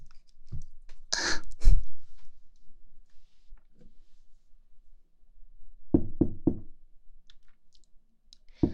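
Someone knocks on a door: a few heavy thumps early on, then a pause and a crisp burst of three quick raps. No voices, only faint room quiet between the knocks.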